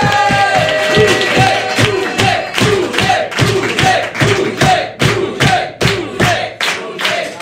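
A loud crowd claps and cheers continuously to welcome a guest, with a steady rhythmic pounding beat running through the noise and some music underneath.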